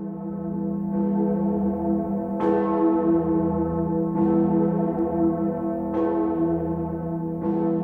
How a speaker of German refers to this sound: Sie läutete ein halbes Jahrtausend. Wie viele Glocken erlitt auch sie einen Haarrissschaden und erhielt 2004 im Glockenschweißwerk Lachenmeier in Nördlingen ihre wundervolle Stimme zurück.